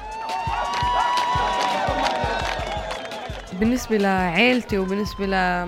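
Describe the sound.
A crowd of a racer's fans cheers loudly at a race, with scattered claps and a dense wash of excited voices, then a few voices rise above it in long, wavering whoops and shouts.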